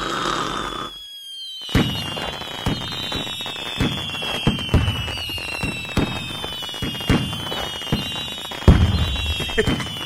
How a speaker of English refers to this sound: insert explosions and fireworks here.